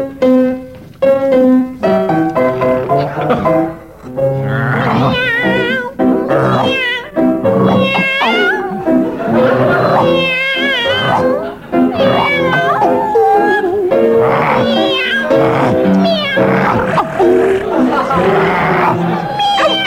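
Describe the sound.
Two team members in a game round sing a song as a dog and a cat, entirely in imitated cat meows and dog-like howls, the wavering, yowling voices running continuously and loudly, with faint crowd noise beneath.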